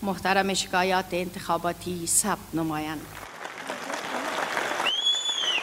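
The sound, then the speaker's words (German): A crowd of supporters of President Ghani shouts and cheers loudly for a few seconds at the election result, then breaks into steady, dense clapping, with a shrill whistle rising above the applause near the end. “Die Anhänger von Präsident Ghani nahmen das Ergebnis mit großem Jubel auf.”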